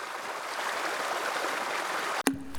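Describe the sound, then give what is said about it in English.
A stream flows with a steady, continuous rush of water, even in loudness, then cuts off abruptly near the end with a brief click and short hum. “Here now, water.”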